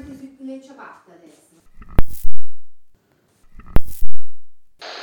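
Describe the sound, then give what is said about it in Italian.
A stove being lit twice, each time a sharp, loud burst followed by a low rumbling whoosh that fades over about a second, with people talking quietly beforehand. “Ma accende la stufa, no?”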